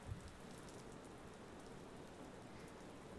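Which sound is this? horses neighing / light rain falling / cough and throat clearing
light rain falling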